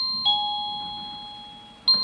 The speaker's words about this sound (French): Au deuxième coup de sonnette, les machines à coudre s'arrêtent, la quinzaine de salariés se rassemblent pour...